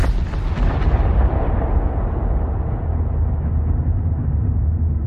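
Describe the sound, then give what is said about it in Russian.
A distant, muffled explosion booms once, then rolls on as a heavy low rumble that slowly dulls and fades over several seconds, with no voices. “Вслед за далеким приглушенным взрывом по воздуху пронеслась мощная ударная волна.”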